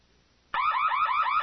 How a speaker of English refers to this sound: Hearing the alarms as he and Jason stood together in the turbo lift, Luke realized that R2, still standing sentry duty in the grand audience chamber, must have triggered them.